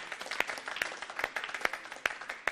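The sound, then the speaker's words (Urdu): An audience applauds to encourage the winning team, Team A, a steady dense crackle of many hands clapping at moderate volume, with a few sharper individual claps popping out above the wash. No one speaks. “اور آج کی ونر ٹیم ہے ٹیم اے، ان کی حوصلہ افزائی کے لیے تالیاں”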